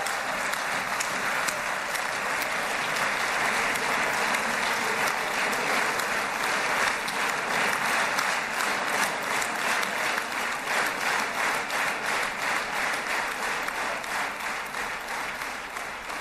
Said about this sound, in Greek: Ακούμε, είναι όλοι οι βουλευτές χειροκροτούν όρθιοι τον Αμερικανό πρόεδρο.